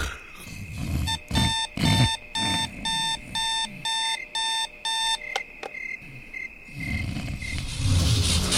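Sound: alarm clock ringing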